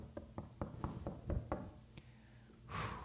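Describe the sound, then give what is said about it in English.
A quick, steady run of about seven knocks on a hard surface, a short pause, then one more knock, followed by a brief breathy rush of noise. “Lord, hey, I'm not going to stop knocking until you answer.”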